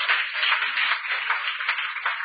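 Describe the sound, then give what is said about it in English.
An audience claps their hands together in praise, a steady, dense wash of overlapping claps that holds at an even loudness throughout, with no voices standing out. “Clap them hands right there.”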